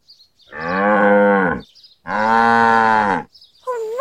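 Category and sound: animal, cow mooing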